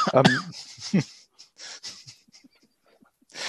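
A couple of harsh, throaty coughs burst out in quick succession, followed by a string of softer, wheezy breaths and faint gasps, with another noisy exhale at the end.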